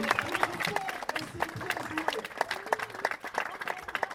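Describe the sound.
An audience breaks into dense, steady applause, many hands clapping at once in a fast crackling wash, with a few voices calling out underneath throughout.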